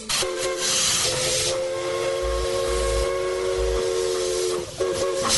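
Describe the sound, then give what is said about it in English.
A steam train's whistle blows in a long, steady tone over a constant hiss of steam and low chugging rumble, with a brief break before the whistle sounds again near the end, on the Walt Disney World Railroad at the Magic Kingdom. “What is that the sound of? The train! The Walt Disney World Railroad.”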